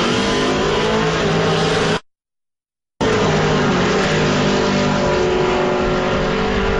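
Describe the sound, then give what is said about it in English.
The engine of a 1967 Ford Mustang drag racing in lane two roars and revs at high volume, cutting out abruptly for about a second before the same dense, powerful drag-racing engine noise resumes, with no talking. “And we got a Ford Mustang in lane two. Tyler Horn. That's a 67 Mustang. Yeah. It's loud.”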